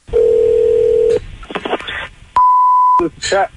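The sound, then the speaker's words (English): A steady telephone tone rings out for about a second, followed by short dialing bleeps and clicks, then a second pure beep and a few warbling electronic chirps, all loud, as a call is placed to ask about renting a fire truck. “It's our phone jibba where I try and rent a fire truck.”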